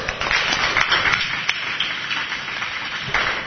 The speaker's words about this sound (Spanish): Pues muchísimas gracias y un fuerte aplauso.